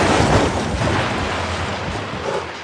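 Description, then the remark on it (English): A video game car crash sound effect: a loud, steady burst of harsh, rushing noise with a low rumble underneath, holding for about three seconds before easing slightly, with no one talking. “If you crash, you get this sound.”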